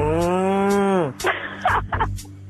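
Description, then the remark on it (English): A cow gives one long, loud, drawn-out moo lasting about a second, its pitch sagging slightly at the end, followed by a few scattered noisy bursts. “sound of a cow there, of course.”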